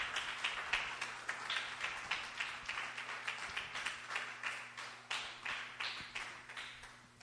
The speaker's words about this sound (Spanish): Entonces, con un aplauso recibamos a nuestro Padre Espiritual, mi Padre también.